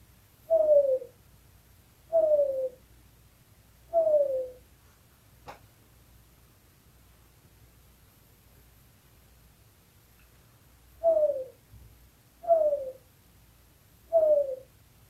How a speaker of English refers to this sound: If I had a cat, I'd name him Zeffs, and we would listen all night long to the golf course owl's perfect two ellipses.